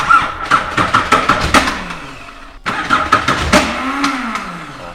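An engine being started up while its pneumatic gear-shift compressor pumps: rhythmic, rattling cranking pulses, a brief pause, then more cranking until the motor catches with a rising, humming roar. No one speaks.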